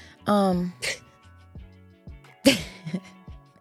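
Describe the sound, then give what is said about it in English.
Two loud, painful-sounding sneezes a couple of seconds apart, the first with a rising voiced intake before a sharp, hissing burst, the second a sudden explosive snap followed by quieter breathy sounds. “back to the Fake Ass Book Club where painful sneezes are in full effect.”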